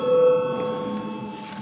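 A parliamentary voting bell rings continuously before a vote on declaring a bill urgent, a steady metallic tone that is loudest at the start and then holds on without pause.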